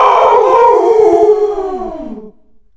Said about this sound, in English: And then I heard a woof, woof, woof, and I knew that wasn't me, because I hadn't woofed at all.